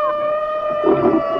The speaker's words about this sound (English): An orchestra of wolves, hyenas, jackals, and dingoes.